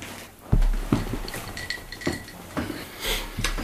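Someone drinks from a glass in a studio: a handful of sharp clinks and taps as it is handled, with soft, irregular shuffling sounds between them and no talking.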